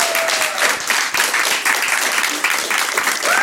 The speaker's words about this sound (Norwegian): Tusen takk for invitasjonen. Kan vi høre en ordentlig applaus, for vi ikke vant til å... Yes!